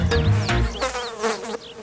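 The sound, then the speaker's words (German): A bee buzzes loudly, its drone wavering in pitch as it moves around for a couple of seconds, with no voices over it. “Das Bienen hier noch schnell. Voilà, jetzt ist es weg, das Bienen.”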